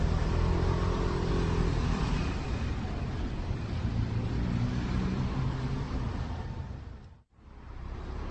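A motor scooter used as a motorcycle taxi rides over cobblestones while turning onto Vinohradská Street, a loud, continuous rumbling roar with rattly road noise that holds steady throughout, briefly cutting out near the end before resuming.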